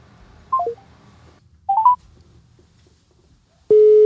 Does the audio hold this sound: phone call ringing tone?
yes